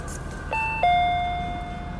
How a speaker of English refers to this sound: The monotone bell over the door sang.